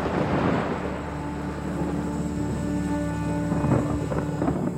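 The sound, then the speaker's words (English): A deep, steady rumble of a thunderstorm outside rolls on throughout, loud, with a low droning undertone and a slight swell near the end. No voices. “I hope you're feeling brave, because not only does it look like there's a storm brewing outside, but tonight I would like to chat with you all about fear.”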